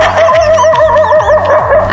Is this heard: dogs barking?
yes